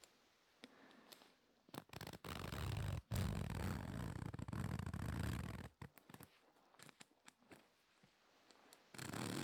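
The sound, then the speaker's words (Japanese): A zipper slides up and down repeatedly in a series of quick, raspy runs. Sharp clicks and ticks break up the dense scratchy strokes. No voices are heard. “ちなみに今これはただファスナーを上下させてる音なんですけど”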